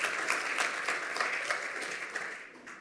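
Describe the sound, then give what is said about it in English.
A crowd applauds a presenter who finished a slide talk in a record 2 minutes and 29 seconds, a dense wash of many overlapping claps at even loudness for about three seconds that thins slightly toward the end. “So give him a round of applause for that.”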